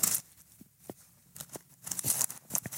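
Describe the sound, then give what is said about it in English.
Thin pages of a paper Bible being flipped one after another to find Deuteronomy chapter 29, verse 29, a series of crisp rustles and soft flicks that grow busier toward the end, with no talking. “If you turn there with me, I'm going old school. I got my paper Bible with me today.”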